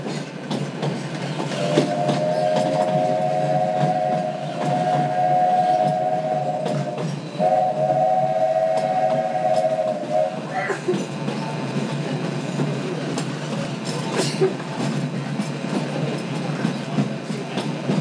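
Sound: train running along rails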